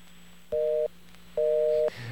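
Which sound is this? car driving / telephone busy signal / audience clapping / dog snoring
telephone busy signal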